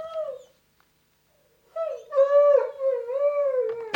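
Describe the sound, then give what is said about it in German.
A Dobermann dog gives a short whine, falls silent, then lets out a long, wavering howling whine that rises and dips in pitch, fairly loud, with no one talking. “Richtig, es ist ein Hund. Das ist ein Dobermann.”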